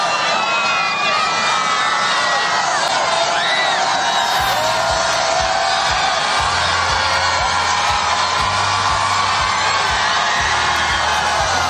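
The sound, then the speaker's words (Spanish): A huge crowd of about 120,000 young pilgrims in St. Peter's Square, Rome, cheers and applauds Pope Leo XIV as he arrives in his popemobile at the end of the Jubilee of Youth welcome Mass: a continuous roar, with whoops and high shouts rising over dense clapping, some low rumbling underneath, sustained at full volume throughout. “Este es el momento en el que cerca de 120.000 jóvenes aplaudían emocionados al Papa León XIV, que entraba por sorpresa en la Plaza de San Pedro en su papamóvil, al término de la misa de bienvenida del Jubileo de la Juventud.”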